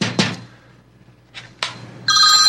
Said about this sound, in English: Well, let's just find out who's calling me here. I always keep that with me for emergency purposes. And I always forget to shut the ringer off.